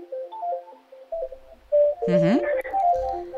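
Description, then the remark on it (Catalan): Electronic telephone tones of an incoming call play a stepping sequence of short melodic beeps, then break into a warbling, rising chirp with buzzy crackle of interference before the beeps resume, all fairly loud with no one talking. “Em sembla que tens una trucada.”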